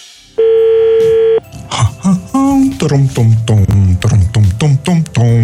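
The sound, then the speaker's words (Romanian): A single steady electronic telephone ring lasting about a second, loud, followed immediately by people talking, during the Europa FM radio segment Telefonul lui Moș Crăciun. “Sună telefonul, ia să vedem.”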